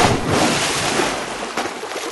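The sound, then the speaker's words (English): Water sloshes and splashes steadily as someone gets into a jacuzzi, a dense rushing wash with a brief stronger surge near the end. No voices. “Oh, that water feels so good. The perfect temperature in the jacuzzi of everlasting affection.”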